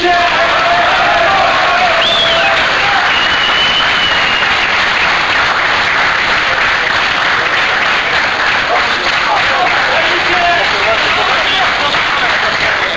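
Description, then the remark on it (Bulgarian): A large crowd of fans applauds steadily, welcoming arriving football players: a dense, continuous wash of clapping lasting the whole stretch, with scattered shouts and cheers rising above it. “Всеки от тях бе посрещан от феновете с аплодисменти.”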